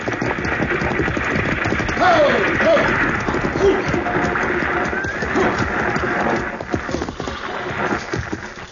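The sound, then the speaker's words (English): A six-horse stagecoach hitch clatters along in a steady, dense rumble of hooves and harness, with a brief whinny rising above the din. No one speaks. “Driving a 6-horse hitch ought to keep him awake.”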